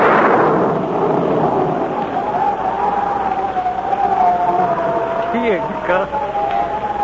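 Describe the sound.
A loud, rolling rumble of thunder from an approaching storm bursts out at the start and keeps rumbling on, with a thin whistling tone, like wind, drifting through it and faint voices underneath.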